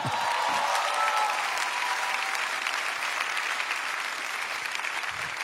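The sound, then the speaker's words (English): An audience at a church service claps steadily for several seconds, a dense, crackling wash of applause holding at an even level from start to finish, with no talking over it. “It's a good place to clap.”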